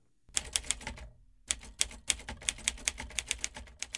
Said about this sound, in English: I'm a first draft typewriter person. I like manual typewriters to bang out that first draft on for various reasons.